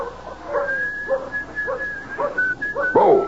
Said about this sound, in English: As with Dan Bowles, whistling softly to himself while he hitches up the buckboard, enjoying the prospect of the trip to town as any lone cowboy would.